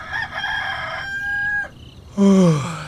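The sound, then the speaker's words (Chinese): A rooster crows loudly in the middle of the night, before daybreak, a drawn-out cock-a-doodle-doo that ends in a strong, falling final note, with no voices around it. “这公鸡怎么半夜就叫了呀？”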